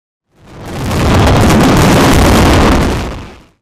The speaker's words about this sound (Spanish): Se hace la mascleta todos los días a las 2 de la tarde en la plaza del ayuntamiento, 3 o 4 minutos de fuegos artificiales, donde lo importante es el ruido.